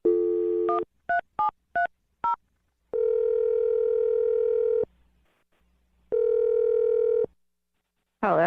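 A steady dial tone hums, then four quick touch-tone beeps as radio show hosts dial a phone number to call a woman, followed by two long ringback tones with a pause between and a brief chirp at the end.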